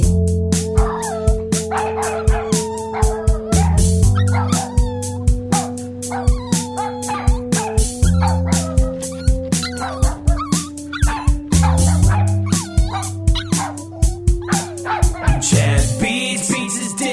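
Dogs bark and yip in rapid, repeated short bursts, packed closely together with a steady rhythm over sustained droning tones underneath, loud and close throughout.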